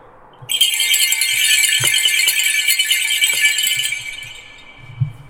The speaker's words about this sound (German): Das ist ein Schönkranz, ist eigentlich bei uns bekannt für die Pferdefahrwerke, Schlittenglocken. Im Winter haben sie es eigentlich viel hergenommen, also akustische Warnglocken, sage ich mal. Klingt gleich ganz anders, gell?